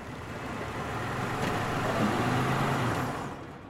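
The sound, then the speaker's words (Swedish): A car engine rumbles as a car pulls up outside Terminal 3 of Los Angeles International Airport around 9 on a Friday morning, 1 November 2013, the low drone swelling slightly and then holding steady before easing off, with no voices. “Omkring klockan 9 stannar en bil utanför terminal 3.”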